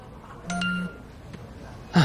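A short phone notification ding, a single bright tone lasting under half a second, followed moments later by a brief, louder electronic blip. No voices.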